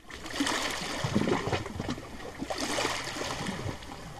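The Danube River in Hungary flows steadily along the shore on a weekday afternoon, at the point where the river turns south: a continuous wash with small lapping ripples and gurgles rising and falling. No voices are heard.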